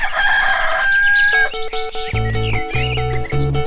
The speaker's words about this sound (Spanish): Su alborotamiento expresivo ocupa los espacios de silencio en esta montaña de un rebaño de gallinas